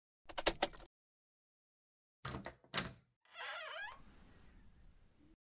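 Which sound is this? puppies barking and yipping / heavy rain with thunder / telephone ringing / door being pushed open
door being pushed open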